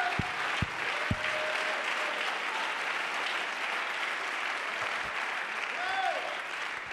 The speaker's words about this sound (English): Oh, come on. Let's clap our hands and praise the Lord.